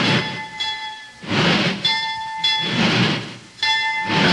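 A train rolls along the rails, its wheels giving a rhythmic, surging rush that swells and fades every second or so, with a steady high metallic hum ringing over it. No voices.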